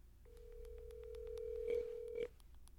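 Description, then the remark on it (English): A phone line ringing out: one long, steady electronic tone lasting about two seconds, with faint regular clicks in the background and no voices. “So you can see how we answer the phone every time.”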